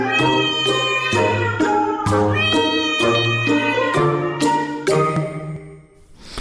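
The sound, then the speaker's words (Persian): A domestic cat meows over and over, roughly seven loud, tonal calls in quick succession that run almost back to back, with no talking. “بر همین اساس تا اینجای کار دانشمندان میگویند این میو میوهای معروف گربه ها بیشتر برای ارتباط گربه های اهلی با دوستان دوپایشان استفاده میشود.”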